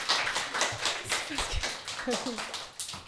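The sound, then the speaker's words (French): Children applauding: an uneven patter of scattered hand claps that runs steadily throughout, with a few young voices calling out briefly over the clapping. “On laisse les enfants applaudir.”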